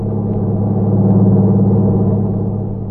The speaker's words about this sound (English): Then he saw the lights of a truck approaching. It passed him at high speed.